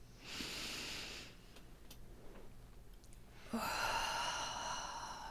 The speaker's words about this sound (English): And right this minute, right now, take a deep breath.